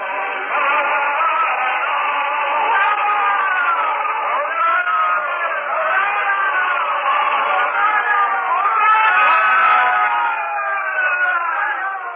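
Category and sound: crowd, crowd cheering and shouting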